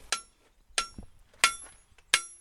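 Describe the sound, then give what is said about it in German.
Four evenly spaced hammer knocks on a railway car's applied handbrake during a coupling and brake check, each a short, very dull metallic strike with a brief fading ring, and no one talking. “Ist ein ganz dumpfer Klang. Das hat einfach den Grund, hier ist die Handbremse angelegt.”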